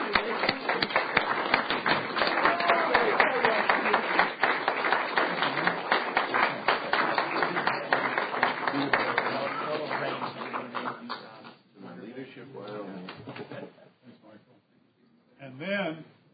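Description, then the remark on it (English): A crowd breaks into loud, sustained applause, a standing ovation for a group of honorees, a dense wash of clapping that lasts about ten seconds before thinning out, with voices emerging afterward. “Let's give them all a great round of applause, a standing ovation for what they did.”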